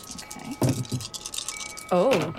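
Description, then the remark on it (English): Four dice are rolled, rattling and clattering across a hard surface in a quick burst of small clicks, with a brief voiced exclamation near the end; they land showing three minuses and one blank. “Okay, so what you'll do now is that you will each take four dice.”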